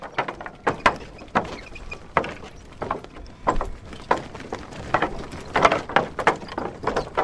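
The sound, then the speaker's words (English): Loose teak boards of the world's longest teak footbridge, in Mandalay, clack and squeak as bike tires roll across them, an irregular run of sharp knocks and creaks, steady and fairly loud, with no voices. “As he rode, loose boards squeaked and chattered as the bike tires rolled over them.”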